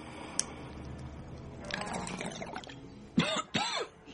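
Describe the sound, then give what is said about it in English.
A person coughs, first with rough throaty rasping, then two loud, sharp coughs in quick succession near the end. “It helps you stop coughing.”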